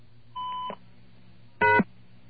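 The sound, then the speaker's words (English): On a phone call to a company's answering machine, the star key is pressed: a short keypad tone sounds, then after a pause of about a second a louder, brief electronic answering-machine beep follows. The line hums faintly underneath, and no one speaks. “If you hit the star key, it jumps to the beep.”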